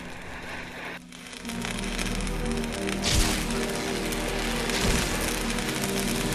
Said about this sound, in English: He then turns to see oxyacetylene sparks showering through the metal of the door.